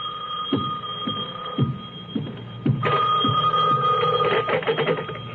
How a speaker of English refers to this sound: When I walked into my apartment in Santa Monica, the phone was ringing.